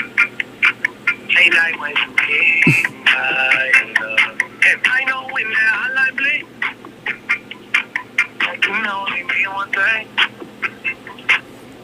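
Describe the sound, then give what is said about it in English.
A phone on-hold sound effect plays while the host takes an incoming call: a steady stream of busy, warbling electronic tones with choppy, quacking chirps, loud and continuous, with no clear speech over it. “I'm getting called. I'm going to have to put you guys on hold real quick.”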